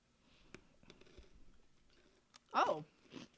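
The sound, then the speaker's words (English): Crunchy chewing on crisp brown sugar flavored biscuit sticks sold as pretzel sticks, an Okinawa-inspired treat: a few sharp snapping crackles, then a louder burst of crunching near the end, with a faint murmured voice mixed in. “These crunchy pretzel sticks are yummy brown sugar flavor.”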